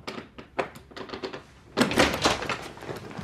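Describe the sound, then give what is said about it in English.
Someone tries to open a door that some guys locked: a series of short rattling knocks from the handle and frame, then louder, rougher thumping and jostling as the door is shoved harder. “I thought I came here to meet my secret admirer, and some guys locked the door.”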